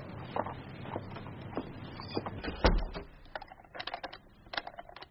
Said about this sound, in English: Why have you locked the door? They only left it open for us.